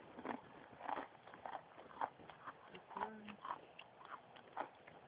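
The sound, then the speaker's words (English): Crunchy bites and chewing on a dry snack, a string of sharp crackling crunches coming every half second or so, fairly loud, with faint murmuring in the background. “You're too addictive. I know. It's the crunch.”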